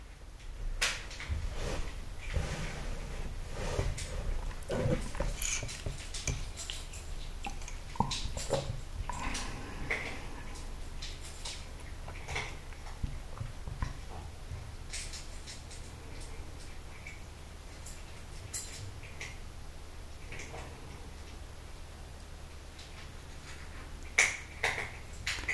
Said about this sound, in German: Hört ihr ihn fressen?